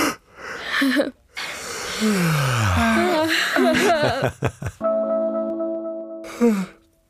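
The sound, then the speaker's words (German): A long, hearty human yawn, loud, with a drawn-out voiced groan that slides down in pitch, breathy gasps around it, and a short sigh-like tail at the end. “Ich werde jetzt mal ganz herzhaft gähnen und dann könnt ihr auch noch mal herzhaft gähnen und alle, die zuhören, werden wahrscheinlich auch den Impuls haben zu gähnen.”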